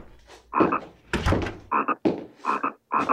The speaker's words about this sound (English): Night is beginning to fall over the land. But the frogs do not rest.